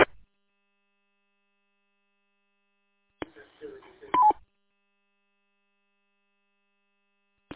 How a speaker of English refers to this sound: Station that just keyed up, I think you have your Roger beep turned on.